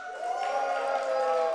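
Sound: audience cheering and applause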